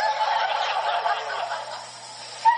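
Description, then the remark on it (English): A person imitates a bird with a close, steady warbling, gobble-like vocal call lasting a few seconds, then finishes with a short rising chirp. “So I do the same thing with the birds. But you talk to the birds? Tweet, tweet, tweet, tweet.”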